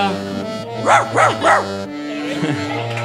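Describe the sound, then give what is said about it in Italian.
A girl imitates a dog, giving three quick, fairly loud barks in an even rhythm over a steady low background hum, followed by quieter vocal sounds. “Ah, non è un cane vero. Bravissimo, bravissimo, ragazzi. Sembrava un cane vero.”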